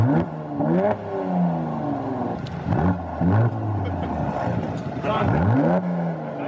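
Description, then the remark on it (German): A car engine revs hard several times in a row, its pitch climbing and dropping with each throttle blip, loud, with a steady rumbling idle between the bursts. “Ja, also Sound ist auf jeden Fall wichtig, wie ich gelernt habe.”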